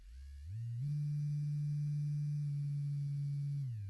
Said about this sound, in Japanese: すごい音でしょ、電話の音。